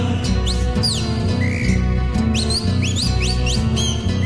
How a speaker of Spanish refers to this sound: Silba la calandria.